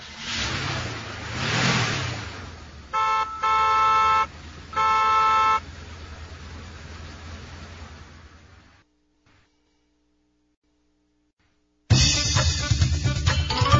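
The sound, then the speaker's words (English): A car engine rumbles and passes by, then three loud horn honks sound in a row before the noise cuts to near silence and another engine starts up. “You can go in a car.”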